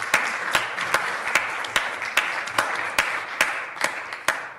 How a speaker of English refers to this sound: So, with that golf clap, let me ask the question, and I mean this sincerely. Why are they clapping? Are they clapping because Tito was just sworn in and that was a historic moment for Huntington Beach? Or are they clapping because it's finally over?